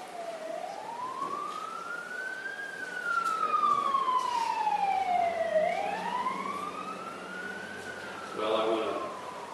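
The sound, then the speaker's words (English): An emergency vehicle siren, the second one heard, wails in a slow rise and fall, sweeping up and down over several seconds, moderately loud, with a steady background hum of traffic. “but that's the second siren we've heard.”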